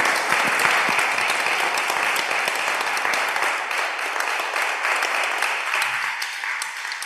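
Sustained applause from a crowd fills the whole stretch, a dense, steady patter of many hands clapping at an even loudness before easing slightly toward the end.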